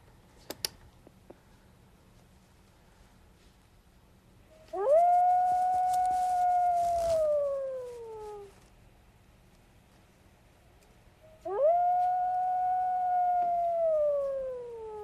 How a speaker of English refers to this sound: I'd like you to hear the sounds of live wolves singing.